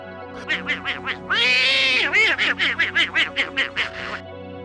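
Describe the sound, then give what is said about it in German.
Donald Duck's raspy, quacking laugh, loud: four quick quacks, a long strained squawk, then a rapid burst of about a dozen staccato quacks, all voiced in a buzzy, nasal tone. “Ja, das ist die Lache von Donald Duck.”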